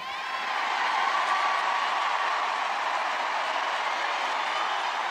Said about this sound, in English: I love how they cheer that.